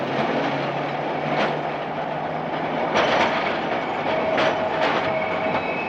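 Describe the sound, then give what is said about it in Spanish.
A tram rumbles steadily along its rails on a street, with a few sharp clacks as the wheels cross joints and a faint metallic whine, continuous with no voices. “El tranvía la adelanta y puede ver su cara.”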